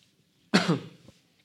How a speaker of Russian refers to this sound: Кажется, что этот кашель как раз-таки у меня появился по этой причине. На улице холодно.